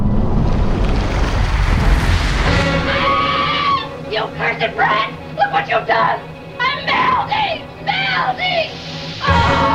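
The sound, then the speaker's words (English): A loud rush of surging water and crashing waves fills the opening seconds, then settles into a steady wash beneath a voice that follows. “Back through the water curtain.”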